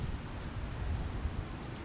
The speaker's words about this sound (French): Le vent me fait bouger aussi.